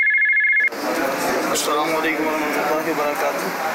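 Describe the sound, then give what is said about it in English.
A short, steady electronic telephone ring tone sounds clearly for under a second at the start, then cuts off as a voice begins talking over a busy background. “Alhamdulillahi Azza wa Jal, there remains a rush of phone calls every day from the people across the globe who contact for conducting the Istikhara.”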